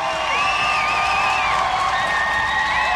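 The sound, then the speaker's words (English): A concert crowd at Avalon in Boston cheers steadily for an encore, a loud, dense roar of voices with high wavering whoops and whistles riding on top, sustained without a break. “And the audience here in Boston at Avalon is psyched.”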